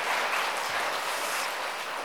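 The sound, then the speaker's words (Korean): An audience at a baptism service at Dream Church of the Presbyterian Church of Korea applauds the newly baptized members together, a dense, steady wash of many hands clapping that fills the whole moment at an even volume, with no one speaking over it. “크게 한번 박수하겠습니다.”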